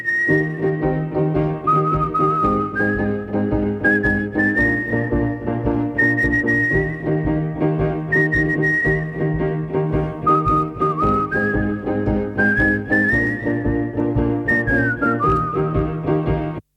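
A clear, bright whistled melody carries the tune in steady phrases over a full band backing, gliding between held notes and short runs throughout, with no voices.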